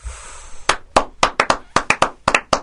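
Audience clapping: roughly a dozen sharp, crisp claps in a loose, steady rhythm, loud and distinct, with no talking over them, after a brief faint hiss.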